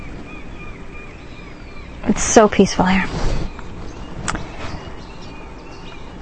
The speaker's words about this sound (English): So where I am now, it is so peaceful, and you can hear the water. Hear that? Just in the background. And the birds all around.